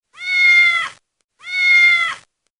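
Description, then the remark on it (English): A big black cat meows twice, each call drawn out for nearly a second with a short pause between, loud with no other sounds around it. “He saw a big black cat.”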